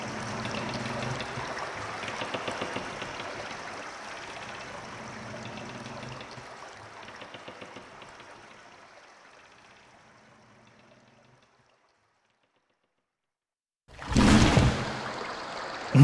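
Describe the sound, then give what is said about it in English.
Steady flowing water in a tunnel murmurs and trickles with a hollow, enclosed echo, gradually fading into silence, then a sudden loud burst of rushing noise begins near the end. “I'll just lie here and float down the tunnel.”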